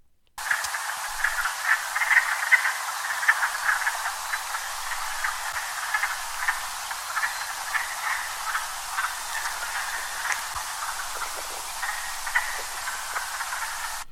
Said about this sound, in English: So, depending on how you remember things, I think the wood frog sounds a little bit like it's quacking, like a little mallard. It does.